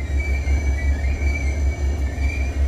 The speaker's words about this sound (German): Der Zug kriecht an Seen, Lichtungen und Wäldern vorbei.